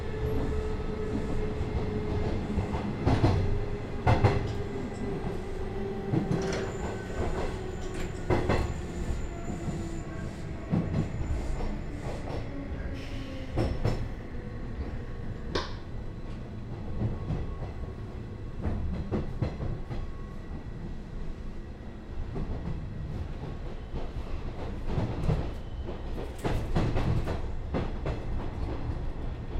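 Steady rumble inside a moving Nishitetsu train approaching its terminal station, Fukuoka Tenjin, with rhythmic wheel clacks, intermittent squeals and tonal whines rising and falling, no voices, continuous throughout.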